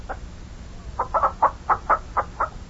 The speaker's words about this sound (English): Get out of the way there, chickens, before we step on you. Look at all the chickens.